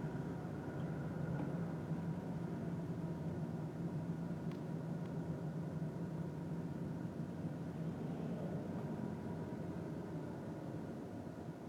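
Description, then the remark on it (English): A car's steady low engine and road rumble, heard from inside the vehicle while driving on a freeway in stop-and-go traffic, holding an even level throughout with no clear stops or surges and no voices. “And now I'm stopped on the freeway. And now I'm going.”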